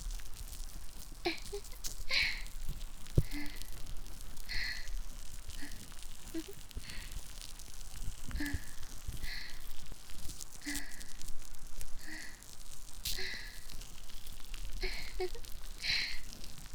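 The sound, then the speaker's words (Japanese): Soft, close crackling pops inside the ear, coming in irregular clusters of bright little clicks over a steady hushed noise bed for the whole stretch, with no voice. “耳の内側もね、パチパチする音が近いね。”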